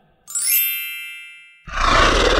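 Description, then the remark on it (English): A bright, ringing synthetic tone swells and slowly fades, then a loud, harsh digital sound effect of a T-Rex roar bursts in and holds at full strength until the end, with no talking. “It's a T-Rex's roar, but it's not real. It's a digital effect.”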